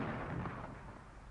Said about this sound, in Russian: Пять. Неужто бой опять? Шесть. Это салют. Совершенно верно. 6-дюймовая батарея салютует.